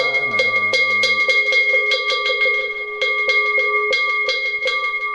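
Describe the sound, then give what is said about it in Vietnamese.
A Buddhist ritual bell is struck rapidly and steadily during a chanting ceremony, its bright metallic ring sustaining between hits. The strikes are loud, with no voices. “Lần này chúng ta một lần chuông lên và lần chuông xuống.”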